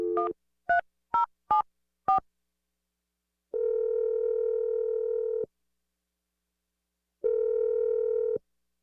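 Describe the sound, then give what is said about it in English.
Five quick touch-tone keypad beeps of a phone being dialed, followed by two long, steady electronic line tones separated by a pause, clear with no talking. “But, okay, I'm about to dial the phone number right now.”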